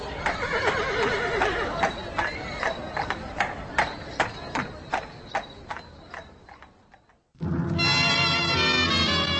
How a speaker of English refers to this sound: Well, I hope Benjamin will hold out. That is a very ancient horse. But wonderful. Dad drove Benjamin all his life.